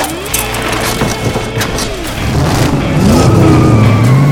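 A motorcycle engine revs loudly, its pitch climbing as it accelerates, with some clattering mechanical noise underneath and no voices.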